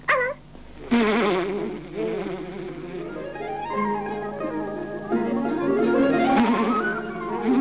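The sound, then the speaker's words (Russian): Steady buzzing of honeybees at a backyard hive in Sydney, Australia, fills the whole stretch, a dense droning hum whose pitch slowly sweeps up and down, continuous, with no talking. “По-моему, пчелы что-то подозревают. Подозревают? Не знаю. Но только они ведут себя подозрительно.”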